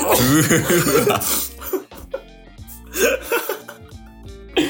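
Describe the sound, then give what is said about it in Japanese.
Several sharp, explosive sneezes burst out one after another in an uneven rhythm, loud and breathy, with a steady tonal hum sounding underneath. “大丈夫ですか？くしゃみすごいしてますけど。”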